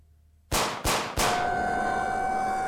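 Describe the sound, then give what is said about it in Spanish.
A quick burst of three loud, sharp gunshots from police fires in rapid succession at a creature in a ditch, then a sustained high ringing tone and a wash of noise hang in the air afterward. No one speaks. “una lluvia de disparos derribaron al ser en toda la zanja.”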